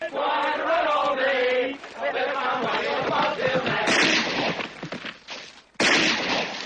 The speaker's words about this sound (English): But he comes in and he fires his gun into the air twice